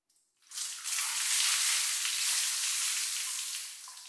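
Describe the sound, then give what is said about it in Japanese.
Hot water is poured to rinse away foam: a sudden, steady hissing rush that lasts about three and a half seconds, then eases off slightly at the end. No one speaks. “でも、もっとかけないと泡は全部流れませんよ。”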